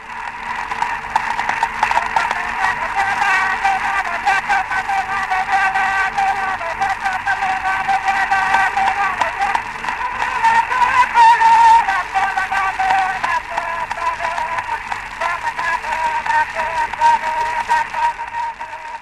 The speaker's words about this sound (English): Isn't that an extraordinary sound? Through all that crackle, you could hear her singing that song, I guess a corroboree song. So recordings were made of her on wax cylinders in 1899 and again in 1903